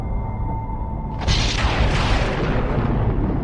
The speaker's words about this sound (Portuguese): Tupã mandou trovões para alertar os pais do curumim.